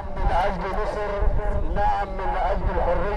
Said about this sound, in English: Nearby, a loudspeaker truck blasts pro-Sisi music as it ambles along a one-lane road.